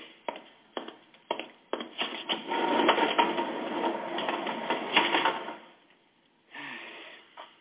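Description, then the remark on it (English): Garage doors being closed: a few sharp clunks, then a long, steady rolling rattle for several seconds that stops abruptly, followed by a brief final scrape. Fairly loud, with no voices. “Close the doors, Rube.”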